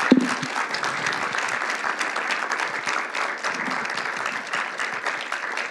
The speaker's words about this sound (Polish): Wielkie brawa, bardzo dziękujemy.